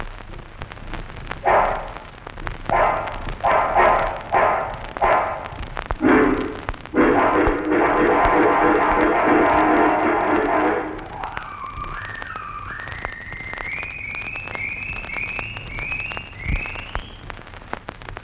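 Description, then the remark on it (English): An organ imitates a dog fight: rough, growling bursts build into a sustained snarling roar, then give way to a run of short, rising yelp-like whines. No one speaks. “That's meant to get brass up an imitation of a dog fight.”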